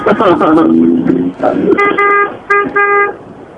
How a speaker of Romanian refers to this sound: E claxonat, nu e nicio problemă. Da, stai un pic, bă. Da. Hai, dați claxoane! Acum nu știu exact dacă îi claxonează pentru că au blocat intersecția sau pentru că sunt invidioși pe iubirea lor.